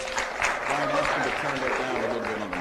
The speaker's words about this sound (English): Again, a round of applause for Mayor Washington.